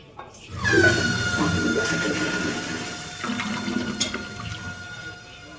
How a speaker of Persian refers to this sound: سیفون زدی؟ چیکار کردی؟ سیفون. من سیفون زدم؟ صداش شده میاد.